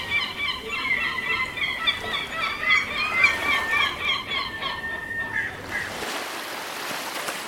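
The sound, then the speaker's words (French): Seagulls call repeatedly in a rapid, overlapping chorus of harsh squawks for several seconds, with the wash of surf running underneath and taking over at the end, on a shore where volunteers collect plastic litter; one gull is caught in plastic bags. “Oh non, regardez, une mouette prise dans des sachets.”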